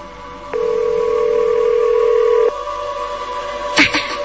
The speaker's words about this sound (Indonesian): Tetap tidak ada tanda-tanda diangkat dari seberang sana. Aku coba telepon lagi.